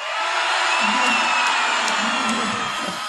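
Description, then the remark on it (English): A large crowd at a ceremony forecasting six more weeks of winter or an early spring by a shadow roars with sustained cheering and scattered high whoops, a dense, loud wash of voices that holds steady for about three seconds. “Wow, biased crowd.”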